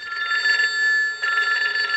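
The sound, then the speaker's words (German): A novelty collectible telephone in a collection rings with a bright, rapidly trilling ring that runs continuously, briefly dipping in the middle before resuming, with no one talking. “Und da die Telefon ist natürlich auch etwas Spezielles. Und wenn wir jetzt hier mal hören, wenn es läutet.”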